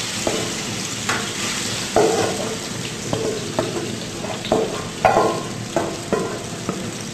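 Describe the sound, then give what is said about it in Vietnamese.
Steady sizzling in a pan as pomelo is stir-fried over low heat for about 15 minutes until it dries, with repeated scraping and stirring strokes at an irregular rhythm, each stroke a short clatter over a constant hiss of frying; no one speaks. “Chúng ta sẽ xào đều như thế này khoảng 15 phút.”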